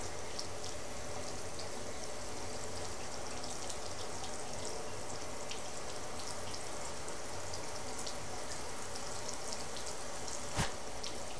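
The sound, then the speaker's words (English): A tap runs steadily with a broad hiss of warm flowing water, and faint splashes and drips hit a sink as a child's hands are rinsed at home, with a brief knock near the end. “With the warm water, we'll wash off your hands.”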